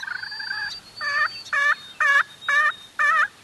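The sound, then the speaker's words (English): A slate turkey call, a disc of slate, is scraped with a stick to imitate a hen during a turkey hunt, producing about six raspy, evenly spaced yelps, loud, with no one talking. “Once they're situated, Jimmer takes out a disc of slate and begins to scrape it with a stick.”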